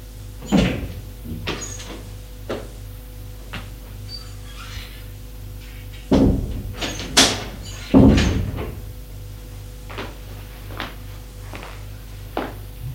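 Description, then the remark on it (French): Scattered light knocks on an office door sound over a steady low hum, then the door is handled with a few louder thuds and rattles before quieter clicks trail off. “On a frappé à la porte. Entrez.”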